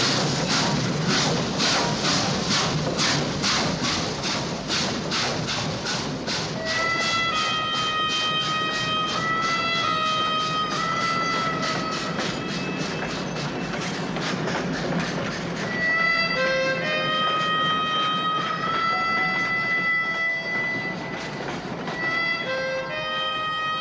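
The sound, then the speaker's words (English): A train rolls past in the film Once Upon a Time in the West, its wheels clattering in a fast steady rhythm while high metallic squeals ring out over a continuous loud rumble, with no voices. “And the train goes by, yeah, and then you get to see Charles Bronson.”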